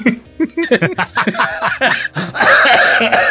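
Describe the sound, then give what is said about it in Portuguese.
A person laughs in a series of short, breathy bursts, then breaks into a harsh, raspy cough that runs for about a second. The sounds are fairly loud. “Toda vez que eu dou uma risada, eu dou uma tosse.”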